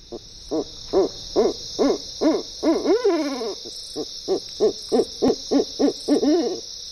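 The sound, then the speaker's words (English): A steady series of rhythmic owl hoots, roughly two per second, clear, with a brief warbling trill midway and a constant high hiss of insects or wind in the background. “And they lend their music to our nights.”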